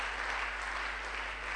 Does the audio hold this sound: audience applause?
yes